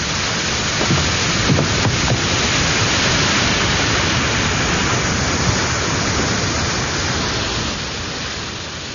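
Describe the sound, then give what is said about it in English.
A loud, steady roar of rushing water pouring over a weir on the River Thames, continuous with no voices, easing slightly in volume near the end. “The bullet catches me in the arm before the river snatches us. The weir swallows all.”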